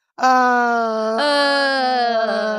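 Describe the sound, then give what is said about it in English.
A long, loud, voiced yawn, a steady moaning tone lasting over two seconds that shifts slightly midway as another yawning voice seems to join in. “That's us yawning.”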